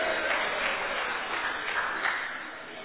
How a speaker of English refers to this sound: Here comes the food truck. Let's have a cheer. Yay!